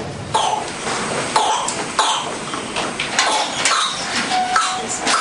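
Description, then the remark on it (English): A whooping cough fit, caused by the bacterium Bordetella pertussis: a long run of harsh, rapid coughs in quick succession, fairly loud, with brief strained breaths between bursts and no speech. “Whooping cough is caused by a really nasty bacteria called Bordetella pertussis”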